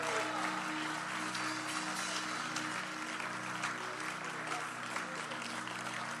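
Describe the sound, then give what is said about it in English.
A church audience claps steadily in thanks to God for several seconds, a dense, even wash of applause with a faint low hum beneath it and no one speaking. “You can clap, clap well, clap well.”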